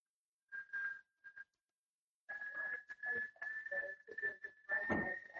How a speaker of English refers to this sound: Yeah. It's a tea kettle, sorry. Nice. Tea is ready. Sweet. Tea is definitely ready.